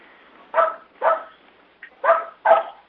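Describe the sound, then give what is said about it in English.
A participant's dog in an online meeting barks four times in two quick pairs, the sharp barks somewhat muffled and thin as if heard over a call line, with near-silence between them and no talking. “Someone's dog is present.”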